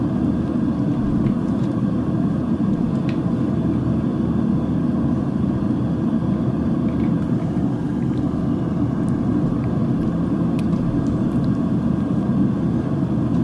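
A steady, low engine drone like the inside of an airplane cabin, holding an even loudness throughout with a broad rumbling hum and no speech.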